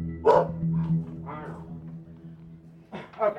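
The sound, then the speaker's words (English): A caged bulldog barks in a few short, rough bursts spaced irregularly apart, with a steady low hum running underneath throughout. “So I opted to just stand there and listen to his cage bulldog bark at me.”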